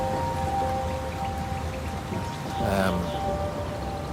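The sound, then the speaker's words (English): A torrential downpour hisses steadily, with dense patter throughout and a brief, louder surge of splashing partway through. “By the time I got here, it was absolutely torrential rain.”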